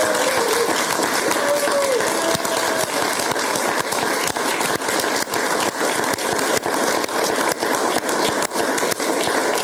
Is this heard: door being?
no